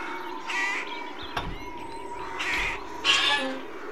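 Several birds in hanging cages call in harsh, cawing bursts, three main squawks spaced across a few seconds with a sharp knock in between, moderately loud against a faint background hum.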